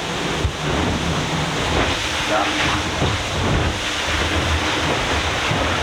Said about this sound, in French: Alors là, moi je connais bien le bateau, donc je peux identifier chacun des bruits. Il y a d'abord le bruit du bateau qui accélère dans la vague.